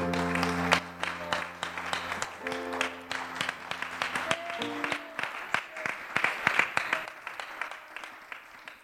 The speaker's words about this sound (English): Can you clap your hands one more time into the Lord?